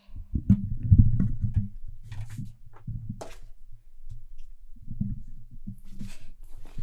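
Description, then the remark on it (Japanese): Low rumbling thumps and scraping handling noise as a microphone is shifted about, with brief crackly rustles and a few sharp taps scattered through, no speech. “ちょっとだけマイクを動かすので、うるさかったらごめんなさい。”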